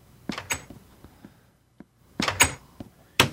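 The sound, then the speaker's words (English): A heavy iron door leading down stairs to an underground beach opens with several clattering metallic clunks and scrapes in short bursts, separated by brief quiet gaps and a few faint knocks. “You got to come over here and go through the iron door and drop down these stairs.”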